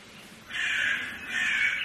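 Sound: crow cawing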